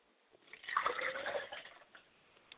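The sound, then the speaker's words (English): Liquid is poured out as a libation to the south in a short splashing stream that lasts about a second, swelling then tapering off into a few faint drips, fairly quiet, with no talking. “I pour libations to the south, and I say Ashe.”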